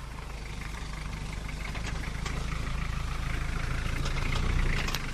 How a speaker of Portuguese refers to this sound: Este é um carro de entrega de comida que acaba de chegar à clínica Sheikina em Tamal.